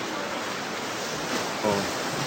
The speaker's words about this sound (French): Avec le bruit de la rivière qui coule. C'est assez impressionnant.